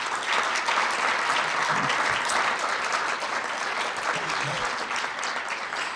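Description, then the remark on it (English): Steady applause from an audience at a Commonwealth North gathering, a dense wash of many hands clapping at even loudness for several seconds with no voices rising above it. “Great, and I would just like to have one more round of applause for”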